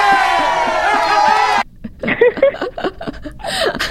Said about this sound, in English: I think, and this deserves a little applause. Yeah!